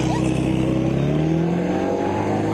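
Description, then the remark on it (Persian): A car engine revs steadily and loudly, its pitch rising gradually as the motor is pushed harder, with a continuous droning rumble throughout. “میخوام این ماشین ما رو وسط راه نذاره.”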